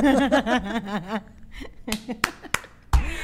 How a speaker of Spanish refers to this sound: Aplausos.